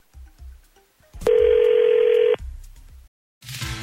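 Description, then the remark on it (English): A steady telephone tone sounds for about a second at a single mid pitch, loud and unbroken, with brief quieter clicks and line noise before and after as a call is placed. “All right, we're going to call”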